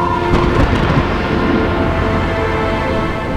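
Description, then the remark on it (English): Distant thunder rolls in a deep, continuous rumble, holding steady and slowly easing off, with no voices present. “We join the unhappy couple just outside the garden as the thunder of judgment dies off in the distance.”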